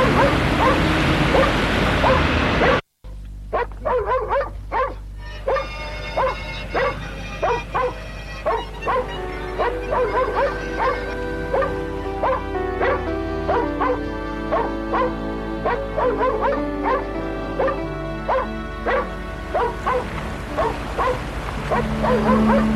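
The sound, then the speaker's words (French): A small dog barks and yips in quick, excited bursts, repeating steadily for the whole stretch after a brief pause near the start, loud with no talking. “Elle n'a fait que surveiller le chien, ce petit diable.”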